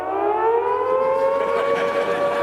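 A civil defense air raid siren wails loudly and continuously, its rich harmonic tone slowly sliding in pitch with no break for the whole stretch.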